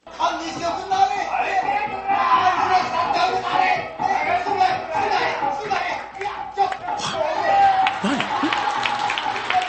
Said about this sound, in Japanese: 拍手が来てる。あ、なんだろうな、お芝居。何。 そう、そうです、大衆演劇です。